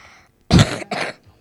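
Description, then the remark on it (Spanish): A loud cough in two sharp bursts, the first harsher and throaty, followed by a brief second hack, with quiet room tone before and after. “Y la última tos también.”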